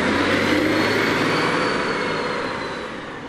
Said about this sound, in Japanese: 今のはスクールバス、世界共通で黄色で、なんか手を取り合っているあの例のマークが。